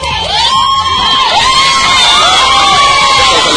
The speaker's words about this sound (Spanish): Se enteran que Sandro paró y todos gritan.